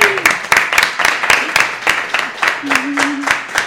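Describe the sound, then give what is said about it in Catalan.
A short burst of applause from a small group, sharp claps landing in a quick, uneven rhythm throughout, with a faint voice murmuring briefly underneath. “Fora aplaudiment, eh?”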